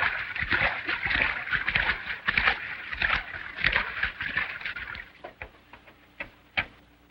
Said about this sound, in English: Back at the river, a renegade rides across to the waiting Zanti.